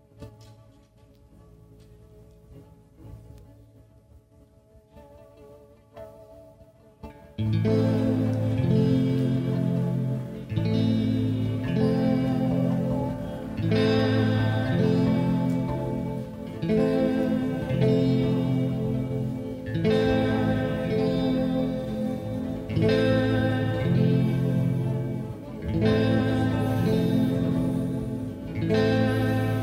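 A live band performance begins with a soft, sparse intro, then kicks into full, loud instrumentation with effects-laden guitars and a steady driving rhythm, no talking.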